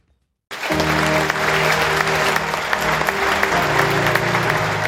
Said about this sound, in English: Applause from inside a packed theatre at Sydney Town Hall as psychologist Dr. Sanderson Oney takes to the stage to deliver his TED Talk.